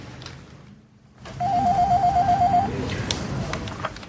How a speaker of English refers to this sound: Okay, he's sitting in his office. He's picking up the phone, calling his secretary.